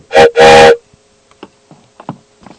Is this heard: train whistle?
yes